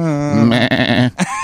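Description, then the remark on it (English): A single loud goat bleat with a wavering, quavering tone that lasts about a second, followed by a short grunting call at the end. “There's probably a lot of sheep and stuff in Italy. Goats or something.”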